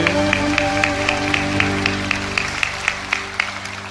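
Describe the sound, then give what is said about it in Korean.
An audience claps in a steady, even rhythm as applause of glory to God, sharp beats landing about four times a second over sustained organ-like chords, with no voices talking. “사랑하시는 하나님께 영광의 박수 올려드리겠습니다.”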